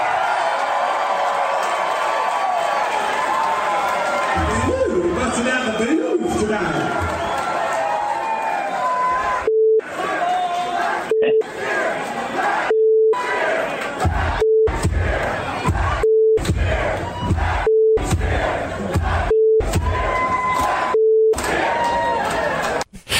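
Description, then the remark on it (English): A large crowd at a rock concert in Connecticut chants and cheers for the band's guitarist, then a steady electronic censor bleep cuts in repeatedly, about eight short beeps at the same pitch with brief silent gaps, interrupting the chant in rhythm. “Yeah, that's really cool how they can beep like that in unison, and they're all the same tune, a nice same pitch.”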